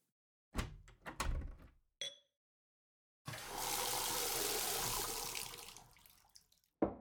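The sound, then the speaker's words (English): A few clinks and knocks, then a steady rush of tap water pours into a glass for about three seconds, tapering off, followed by a final thunk. No one speaks. “Want something to drink? I can offer you tap water or tap water.”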